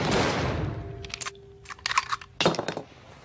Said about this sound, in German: Umdreht, eine Pistole zieht, auf Hannibal Buress feuert, nachlädt.